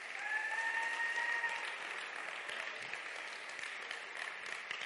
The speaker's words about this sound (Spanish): ¿Sabes que Dios tiene algo para ti hoy? ¿Lo sabes? Entonces dan un fuerte aplauso al Rey.